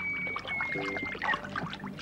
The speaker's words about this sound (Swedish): Men raketen missar och hamnar i vattnet.